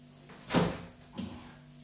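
A refrigerator door swings shut after leftovers are put back inside, a muffled thud followed by a softer second bump a moment later, over a faint steady hum, with no talking.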